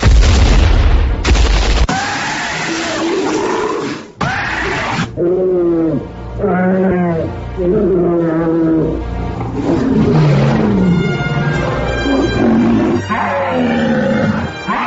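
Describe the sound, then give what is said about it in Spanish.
Loud, deep dinosaur roars rumble one after another for the whole stretch, with growling bellows and booming thuds layered together, dramatic, with no talking. “así que vámonos con rugidos de dinosaurios.”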